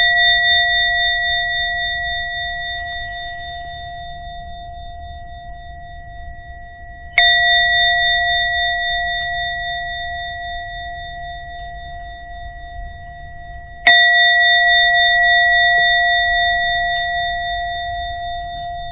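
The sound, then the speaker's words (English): A gong is struck three times, about seven seconds apart, to end a guided meditation. Each strike blooms into a steady, shimmering ring that slowly fades before the next hit, with no talking. “I'm gonna ring the gong 3 times and listen the gong all the 3 times, and on the 3rd time you can open your eyes slowly and come back to the world.”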